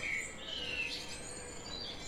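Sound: small birds chirping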